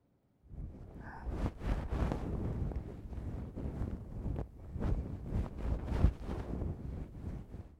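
Continuous rubbing and swishing of a wet towel being wiped across a surface to remove foam, with soft rhythmic strokes and brief louder scrapes, no voices.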